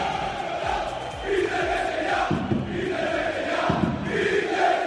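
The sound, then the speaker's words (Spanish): A large stadium crowd at Mestalla chants loudly in unison against the owner of Valencia, voices rising and falling in a steady rhythmic cadence with a dense roar underneath, and no single speaker stands out. “Estos gritos van contra el dueño del Valencia, que te escuchan cada vez que el equipo juega en Mestalla.”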